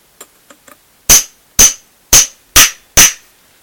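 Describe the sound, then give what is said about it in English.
Three light taps, then five hard, evenly spaced hammer blows on metal, each a sharp loud crack with a bright ringing tone, driving a star-fangled nut into a trimmed steerer tube with a threadless nut setter. “We do that with a threadless nut setter, which is basically a lump of metal that you can hit with a screw thread on the other end that sets the star-fangled nut just down to the correct depth, nice and straight.”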